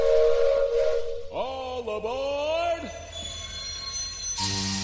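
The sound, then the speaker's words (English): A steam train whistle sounds loud, a steady tone sliding into a long wavering chord-like blast that bends in pitch, then a burst of hissing steam at the end. “Find your seats. The train will be departing shortly.”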